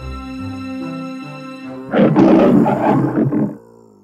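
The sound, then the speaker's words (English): After a couple of seconds of soft, sustained music, a single loud lion's roar bursts in, rough and rumbling for about a second and a half before cutting off. “Suddenly, he left this weak, scared look and roared like the big, mighty lion he was.”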